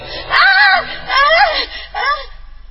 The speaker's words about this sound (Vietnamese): Chính là cái bào thai đó. Thủy hoảng hốt hét lên.